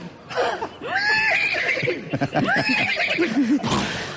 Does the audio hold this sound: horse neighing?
yes